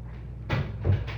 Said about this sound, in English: You can open the door again.